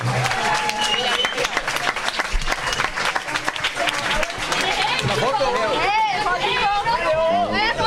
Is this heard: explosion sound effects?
no